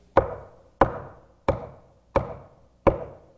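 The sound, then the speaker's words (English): Five firm knocks on wood, evenly spaced at a slow, steady pace, each one sharp with a short hollow ring, alone with no voices. “He's knocking. Sometimes he pounds.”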